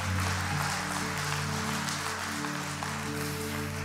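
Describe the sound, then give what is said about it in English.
Audience applause, a dense, steady wash of many hands clapping that holds at an even loudness for the whole stretch, with a low sustained hum beneath it. “If we're gonna clap, let's give a big one, yeah?”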